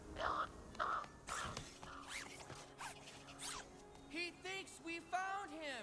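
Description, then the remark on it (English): A bird creature caws and screeches in a run of warbling, rising-and-falling calls, preceded by raspy fluttering whooshes as it swoops away from an abandoned gas station in the desert, loud with no talking. “A bird creature swoops away.”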